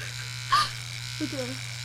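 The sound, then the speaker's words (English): An electric razor shaving off a mustache drones with a steady, low buzz that never breaks, while brief bits of voice rise over it now and then. “Shave that stash.”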